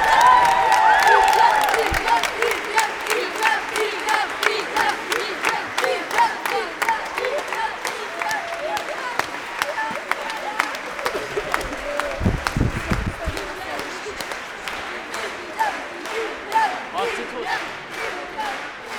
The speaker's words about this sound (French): On applaudit encore fortement la chorale … et les musiciens.